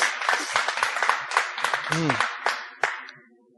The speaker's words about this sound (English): We have 3 groups meeting this week. Isn't that awesome? Yeah. Clap for that. That is good news.